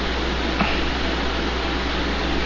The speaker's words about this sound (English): It sounds like we have a chopper landing pad there. Did you turn the fan back on? I don't know. No, I don't know why that sounds like that.